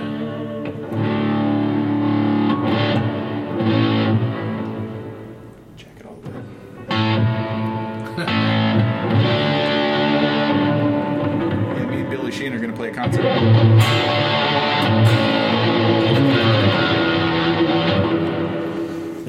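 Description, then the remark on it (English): An electric guitar plays through a small 6-pound amp with two 4-inch speakers, set to a huge stadium-style hall reverb, chords and notes washing out into a long, spacious tail. Steady and fairly loud, with a brief dip midway. “Or you can get hall reverb. Stadium.”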